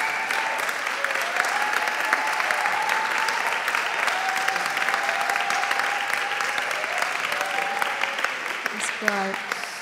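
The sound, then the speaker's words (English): A church audience applauds and cheers for a woman being thanked for her work on the church's events, steadily for about ten seconds, dense clapping mixed with cheers and a few raised voices, staying loud throughout before easing off at the end. “Come on, you can do better than that, church. Give her a big cheer.”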